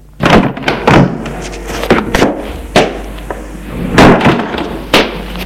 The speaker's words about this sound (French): La porte s'est ouverte.